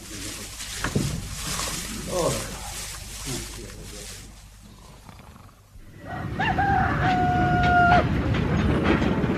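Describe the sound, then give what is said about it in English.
A railway wagon begins rolling along the tracks. A loud, steady low rumble builds, with a high metallic wheel squeal in two sustained tones, after a quieter stretch with faint voices. “The truck's moving.”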